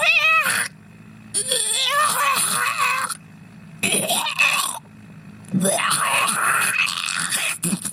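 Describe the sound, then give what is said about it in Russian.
A cat meows four times in a row, each call long, wavering and fairly loud, separated by short pauses, with nothing else going on. “Вы кот? Да, кот, у которого есть газовый баллончик.”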